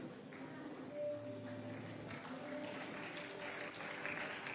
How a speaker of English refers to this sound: Don't be tired of clapping. Celebrate them.